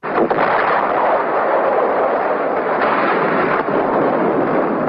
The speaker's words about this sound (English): Here's some sound, this again, from the U.S. military of fighting at Khe Sanh. You hear the planes, the bombs, the gunfire.